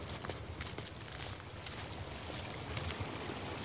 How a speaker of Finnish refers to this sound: Kävelyn jälkeen meditoimme joen rannalla. Ensin silmät auki, katsoen virtaavaa vettä. Ja sen jälkeen silmät kiinni, keskittyen veden ja ympäristön ääniin.